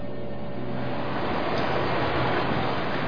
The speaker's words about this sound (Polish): Zaraz. Słyszycie ten szum? To brzmi jak woda w rurach.